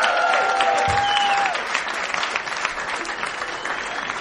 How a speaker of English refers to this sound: I'm going to land on that applause break. Thank you very much, everyone.